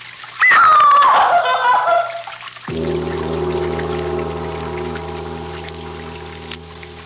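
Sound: running water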